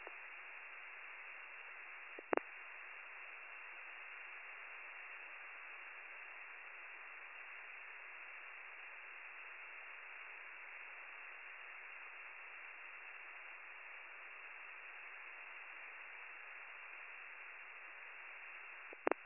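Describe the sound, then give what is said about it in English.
Steady, hissing radio static fills the whole stretch, band-limited and unbroken, with two brief sharp clicks like a transmitter keying, one early and one at the very end. No voices come through. “Negative. It was all static.”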